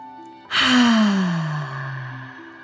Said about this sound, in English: Breathing in through your nose and breathing fire out of your mouth. Again, deep breath in and out.